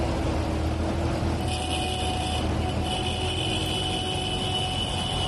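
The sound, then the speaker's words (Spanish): Heavy diesel engines rumble steadily as farmers march with their tractors along a street in Logroño, in front of the headquarters of the Consejo Regulador of the Denominación de Origen Calificada Rioja, a deep continuous drone with a few steady tonal hums riding on top and a higher whine joining midway. “han marchado también con sus tractores frente a la sede del Consejo Regulador”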